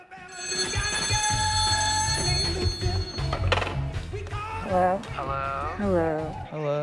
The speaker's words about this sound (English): The phone rings at the factory.